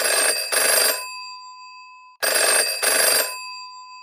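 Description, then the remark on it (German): A telephone rings in two double bursts, each pair of bright trilling rings followed by a pause, clear with no voices. “Außerdem hat sich auch unser Mitglied Henrik Dahne per Telefon gemeldet.”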